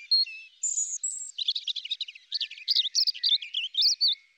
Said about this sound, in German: Eine Ausnahme gibt es da allerdings, das Rotkehlchen. Bei ihnen schmettern auch die Weibchen tolle Arien.